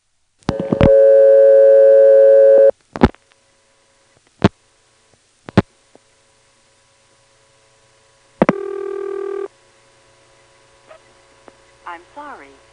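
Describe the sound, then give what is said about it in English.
A telephone ringing tone from a toll switch after dialing 111, a vacant code, into the toll trunk: a loud, steady buzzing tone for about two seconds, sharp line clicks, then a shorter second burst, with the faint voice of an intercept recording from Asheboro, North Carolina starting at the end. “The first one goes into the toll trunk, the next two digits amount to a vacant code, and you'll see what the toll machine uses as its ringtone and its intercept recording.”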